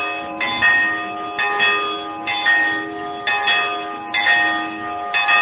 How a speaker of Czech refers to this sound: Evo, zvoni ova zvona, zvone ovdje. Zvone, zvona 900 godina.